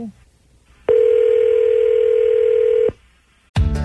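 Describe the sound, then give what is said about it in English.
As a call is placed to a cell phone, the line gives one long, steady electronic tone lasting about two seconds, loud, before cutting off; after a short pause, a new burst of sound breaks in. “So I'm going to call up his cell phone.”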